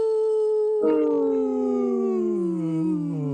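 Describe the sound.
A person imitates a wolf howl, holding a single long, loud tone that slides gradually downward in pitch, with a rougher, breathy swell partway through and no other talking.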